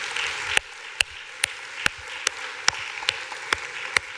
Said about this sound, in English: You are amazing. So give each other a huge round of applause.